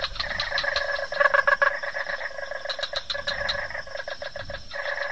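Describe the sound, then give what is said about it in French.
A dense chorus of real frogs from the Luberon clicking and croaking in rapid, rattling bursts like castanets, continuous and fairly loud throughout, with no voices. “En sérieux, j'ai jamais entendu des grenouilles qui jouaient des castagnettes, moi. Si, si, c'est de la vraie grenouille.”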